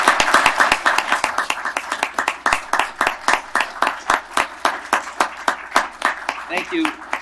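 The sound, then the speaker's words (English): Loud applause from a crowd giving a 'Portland cheer' to welcome a standing delegation, many hands clapping steadily for several seconds and falling into a fairly even rhythm, with faint murmuring voices mixed in underneath. “Could we ask your delegation to stand and we'll suspend the rules and we'll welcome them with a Portland cheer?”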